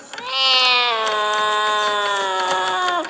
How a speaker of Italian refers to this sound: Udimmo un rumore di catene e un orrendo miagolio.